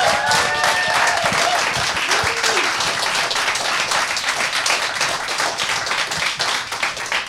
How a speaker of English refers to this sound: So I would like to kindly ask if everybody could one more time applause for the people who are at home.